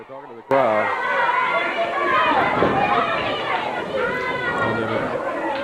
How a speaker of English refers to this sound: Crowd getting on the back of the PYTs.